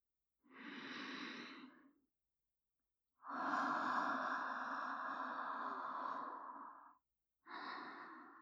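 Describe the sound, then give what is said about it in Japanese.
Three soft, airy breaths blown right into the microphone, fairly loud; the middle exhale is long and sustained, the last cut short. No talking. “吐息を吹きかけられて興奮する趣味、初めて聞きました。”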